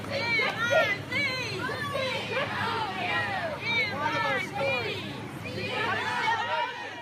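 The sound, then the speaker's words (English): A large outdoor parade crowd in Missouri of many voices shouts the school chant together in a dense, continuous roar, drowning out a group of protesting students, with no single voice standing out. “Instead, others at the parade drowned them out with the school chant.”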